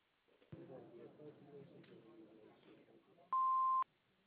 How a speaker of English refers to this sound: Hello. We can't come to the phone right now, so leave a message at the beep. Thank you.